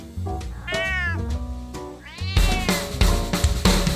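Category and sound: animal, cat meowing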